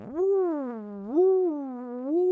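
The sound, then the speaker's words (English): A voice mimics the weird whirring of a time machine starting up after its button is pushed: a steady, buzzy hum that swoops up, sags low, then swells up again in two wavering rises, with no words spoken. “Hardy pushed the button that starts the time machine. It made a weird whirring noise.”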